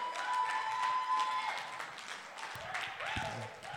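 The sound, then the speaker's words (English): An audience applauds steadily for a few seconds, a dense wash of many hands clapping at an even loudness, with a faint whistle-like tone early on and scattered voices mixed in. “Give them a round of applause, ladies and gentlemen.”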